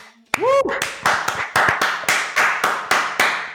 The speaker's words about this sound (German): ein Applaus